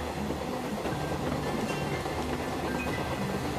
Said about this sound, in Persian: ما تا حرم نمیریم، ما تا مشهد. این قطار تا مشهد.